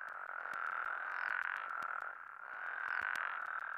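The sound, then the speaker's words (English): A dense chorus of many frogs croaks and trills continuously, swelling and easing in waves, with sharper individual calls clicking out above the steady mass of sound. No one speaks. “The good news is that with a little bit of habitat restoration and fewer flights, the frog populations, once diminishing during the 1980s and early 90s, have pretty much returned to normal.”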